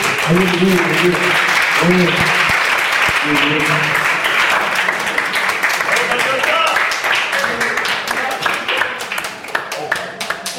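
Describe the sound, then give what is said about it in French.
Sustained audience applause, a dense wash of many hands clapping at steady loudness, with scattered cheers and voices mixed in, thinning slightly into sharper individual claps toward the end. “On applaudit”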